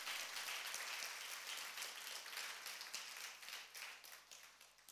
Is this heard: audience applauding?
yes